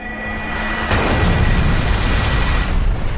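A loud, roaring video game cannon blast, the lunar cannon attack used by the foe Cabaret, erupts after a faint steady electronic tone, then holds as a dense, rumbling explosion for about two seconds before easing off.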